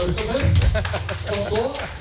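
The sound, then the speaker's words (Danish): A crowd on a ferry claps for visitors from Aalborg in a steady, dense patter of many hands for about two seconds while a voice talks over the applause. “Aalborg, for det kan du klappe lidt for.”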